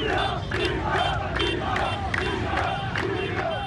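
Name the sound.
crowd shouting protest chants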